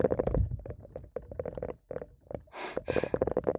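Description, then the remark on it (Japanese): A silicone brush rubs and scrubs in quick, uneven strokes, with soft muffled thuds and bristly scratching, then two louder, hissier swishes near the end. No one speaks. “シリコンブラシ終わり。”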